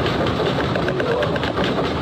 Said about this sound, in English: The P wave arrives. So these are what dogs pick up. You hear a scratch, and that's the S wave arriving, and then the rumble.